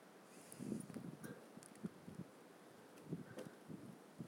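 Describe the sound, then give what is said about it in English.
Gusty, cold wind rushes and buffets against the microphone in uneven bursts, a steady breathy roar with occasional thumps and rustles, no voices present. “Okay, it is uber windy at the moment, so I'm gonna head back.”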